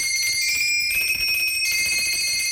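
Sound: doorbell ringing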